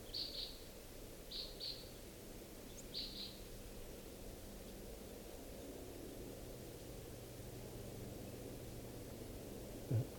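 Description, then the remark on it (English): Crossbill flight calls, likely type 5, from a bird perched above a camp: three quick bursts of sharp, high 'kip' notes, mostly in pairs, in the first few seconds over a steady hiss of background noise, then only the hiss remains. “Recording, I think I hear type 5 calls.”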